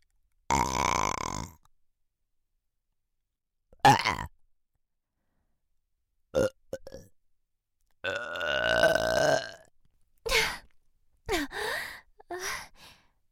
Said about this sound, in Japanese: 巫女の口から呼気を浴びせるという。 え、 どうです？ゲップじゃないかと？どうでしょうか。